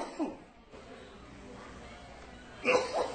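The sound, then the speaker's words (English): Two brief coughs, a short one at the start and a louder, harsher one near the end, separated by a few seconds of quiet room noise. “Coughing here a little bit.”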